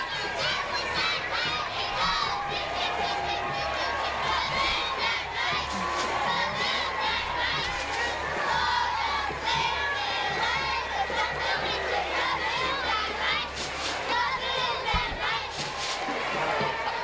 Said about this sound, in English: Five Cities Youth Football Cheerleaders. Woohoo! We are the Five Cities Youth Cheerleaders, and we cheer out loud, and we're proud of our football players. We work hard, but also have lots of fun.